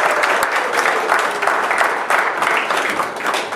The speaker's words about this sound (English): Give the Lord a hand of applause for his house.